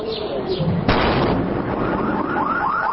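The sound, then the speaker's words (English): A sharp, loud blast bursts out about a second in as a U.S. ordnance demolition team detonates an unexploded American cluster bomblet in a residential neighborhood of Baghdad, followed by a nearby car alarm wailing in repeating rising sweeps that continue steadily to the end. “One detonation rocked the neighborhood and set off a nearby car alarm.”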